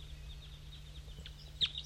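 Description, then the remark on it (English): A wild bird sings faintly from up in a dead pine tree in short, high chirps and thin whistles, with one brighter note near the end, all over a steady low hum and no voices. “There's a wild bird still up in the dead pine singing.”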